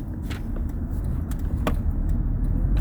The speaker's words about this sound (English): Look at all these damn cars over here.